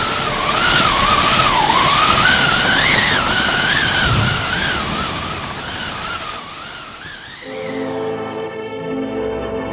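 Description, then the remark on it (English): Loud, continuous roar of crashing waves in a stormy sea during a maelstrom, with a wavering howl of wind rising and falling above it, fading into sustained musical tones near the end. “A storm, nothing! It's a maelstrom! Quick, get on the small boat! Oh, no, the waves!”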